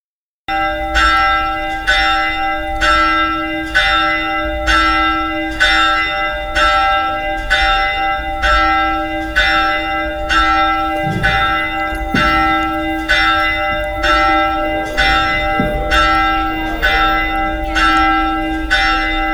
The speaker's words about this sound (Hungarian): ez a harangszó szólította a találkozóra érkezőket a Gagybátori Református templomba a déli 12 órakor kezdődő ünnepi istentiszteletre.